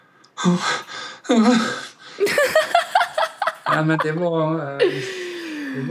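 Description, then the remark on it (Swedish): A voice imitates crying, with sharp gasping inhales and broken, wavering sobs in rapid bursts, fairly loud, followed by a drawn-out whimpering wail. A brief spoken word comes before it. “Gud, är det så du låter när du gråter?”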